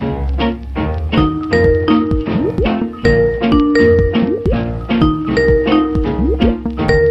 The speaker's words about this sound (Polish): A dobra, zanim go znajdę, to odbiorę telefon.